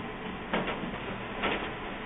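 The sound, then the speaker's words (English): An old HP LaserJet laser printer powering on: a steady mechanical whir with two short, louder whooshing surges about a second apart, with no one talking. “Plug in this old HP LaserJet.”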